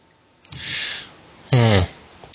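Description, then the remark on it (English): A voice mimics a dog sniffing around at the edge of a wood line: a breathy, hissy inhale followed by a short, louder voiced snort-like burst, alone with no talking. “He's kind of deciding if you broke into there or not, and it's basically just sniffing around at the minute.”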